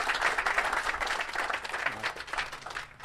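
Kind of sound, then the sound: crowd, round of applause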